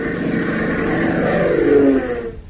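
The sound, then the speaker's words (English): A steady engine roar builds as the throttle opens, its pitch climbing and swelling near the end before quickly dropping away. No voices accompany the sound. “Tank eases the throttle forward another notch, crowding all possible speed out of the beach”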